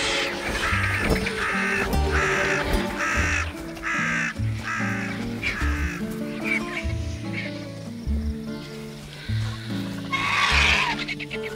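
crow cawing

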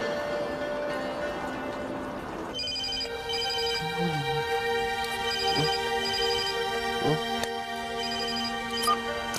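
phone ringing

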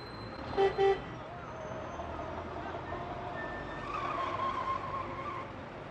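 car pulling up

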